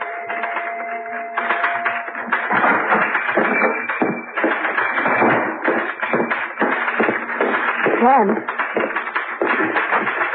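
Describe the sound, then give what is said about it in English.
Rapid, uneven typewriter keystrokes clatter throughout as a man types a story about the previous night's events, a steady stream of sharp taps and thuds, with a voice faintly audible beneath the typing. “I'm beginning to feel jealous of that typewriter.”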